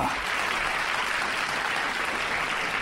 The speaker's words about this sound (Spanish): Cada semana recibimos a una persona destacada en los medios de comunicación. Recibimos con un fuerte aplauso a...